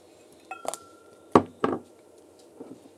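A handful of glass clinks and taps from a Glencairn whisky glass while sipping Lagavulin malted barley whisky, irregularly spaced, with two sharper knocks near the middle and a faint rattle at the end, with no talking.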